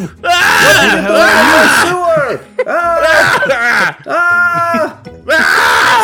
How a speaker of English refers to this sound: See, okay, I can scream too.